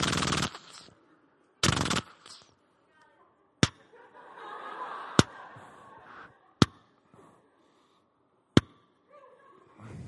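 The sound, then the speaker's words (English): A voice imitates machine gun fire: two harsh, noisy bursts of rattling sound, followed by a few sharp, isolated pops spaced out over quieter murmuring speech. “I just like making a machine gun sound.”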